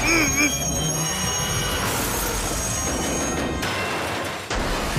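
A train screeches and derails: a loud, continuous grinding roar with shrill metallic squealing overhead, punctuated by a couple of sharp crashing impacts near the end.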